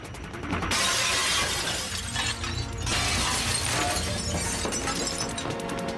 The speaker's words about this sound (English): Downstairs, he unbolts the doors and tries to open them, but can't. It's jammed. He throws a table through the window.